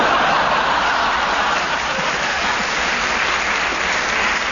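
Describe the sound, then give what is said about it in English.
An audience claps steadily for several seconds, a dense, even wash of many hands at fairly loud volume with no voices over it. “I don't know why you clap him.”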